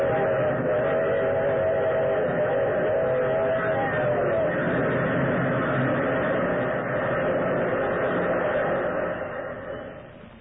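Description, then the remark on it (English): A locomotive roars by with a heavy, continuous rumble while its whistle wails for the first several seconds, then the thundering noise fades away at the end. “The thunderous locomotive, McGregor, transfixed with horror, and the eerie, gesticulating thing. And then the engine was upon it.”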